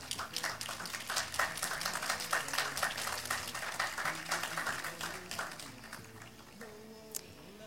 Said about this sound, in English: If you are here, please stand and accept our applause and appreciation.